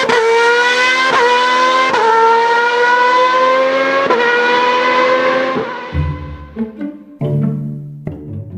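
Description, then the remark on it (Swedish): A Formula 1 car driving a lap screams past at high revs, its loud engine whine climbing through several quick gear changes before dropping to a lower, stuttering burble as it backs off. “Och han körde det snabbaste varvet som någon någonsin hade kört med en formulabil, kan du förstå det?”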